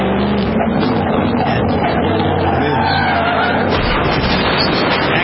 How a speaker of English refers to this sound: Audio and video from the car itself as it rolls over down the embankment. And they have cameras inside the car watching Jay.